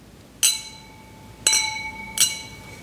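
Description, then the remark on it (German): Three bright glass clinks, clear, spaced about a second apart, each leaving a high ringing tone that lingers briefly as glasses of Weißburgunder white wine touch in a toast. “dann lass uns mal probieren hier, was wir im Gläschen haben. Vielen Dank, Benjamin. Vielen also, Dank. Zum Wohl. Zum Wohl.”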